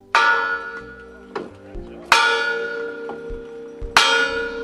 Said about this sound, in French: À 19h, temps universel, une cloche retentit, et pas n'importe laquelle, la cloche en bronze qui résonne est celle de l'église de Birmingham.